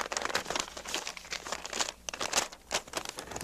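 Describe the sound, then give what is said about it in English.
Crisp crinkling and rustling of paper as a letter from Epic Records is unfolded, with bursts of bright crackle and a brief pause midway, and no voices. “They told me I should read this letter before I play it.”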